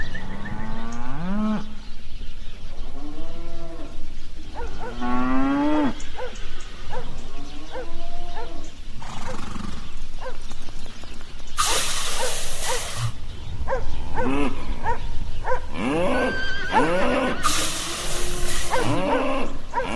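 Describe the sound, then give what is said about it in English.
A calf cries and cattle moo again and again, wavering high-pitched bawls overlapping at a steady pace, with loud bursts of rough, hissing noise breaking in toward the end. “The hens were cackling, the roosters crowing, the ducks quacking, the calf crying, and the sound of flying hoofs could be heard far down the road.”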